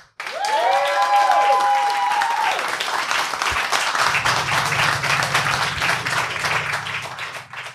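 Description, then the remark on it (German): A large audience at Café Fahrtwind bursts into loud, sustained applause, dense clapping filling the space, with a cheering whoop rising early on and a low rumble joining in toward the end. “aber jetzt sind wir sozusagen hier im Café Fahrtwind und damit die Hörerinnen und Hörer am Ende, wenn wir das hier veröffentlichen als Podcast, auch wissen, dass hier Menschen sind, brauchen wir einen ganz großen Applaus, dass man euch auch hört.”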